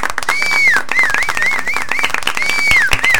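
A steady round of applause, many hands clapping rapidly and densely throughout, with a high, wavering whistle rising and falling over the clapping. No one speaks.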